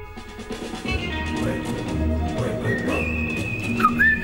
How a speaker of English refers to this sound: It's amazing that these sounds actually are the sound of the Western now, eh? Even the whistling. I mean, okay, I'm sure they whistled in the West.